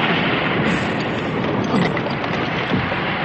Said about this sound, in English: Farnham House crashed into the street behind us. It was the vibration of the truck, I suppose.